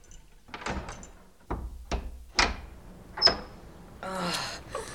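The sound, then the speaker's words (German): A church door is unlocked with a key by the pastor: a run of sharp metallic clicks and clunks, several distinct knocks of the lock and handle, ending in a brief rattling scrape as the door moves. “Wartet, ich schließe auf.”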